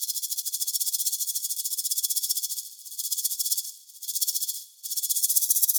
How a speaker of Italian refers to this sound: Il serpente a sonagli striscia lento tra le foglie.